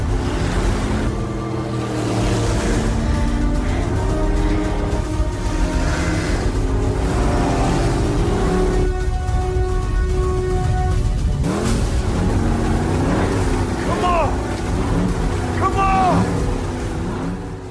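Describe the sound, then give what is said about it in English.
In a movie scene, a boat engine roars steadily and loudly over heavy crashing, rushing surf as a couple in the boat tries to get over a tsunami wave before it crests, with strained voices crying out above the churning noise throughout. “This is where Ray and his wife are trying to overcome a tsunami in their boat.”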